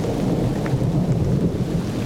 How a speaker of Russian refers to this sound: себя сидящим в лесу, на веранде дачного домика, вокруг лес, дождь, гроза. Вдыхайте в себя запах леса. Запах леса смешивается с запахом дождя.